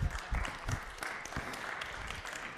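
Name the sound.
church audience clapping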